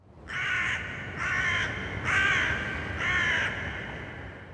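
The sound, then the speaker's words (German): Four loud, harsh caws from a crow in a steady rhythm, each lasting about half a second, over a low background rumble with no voices. “Krähen bleiben mysteriös, ohne exotisch zu sein, was ein sehr seltenes Phänomen ist.”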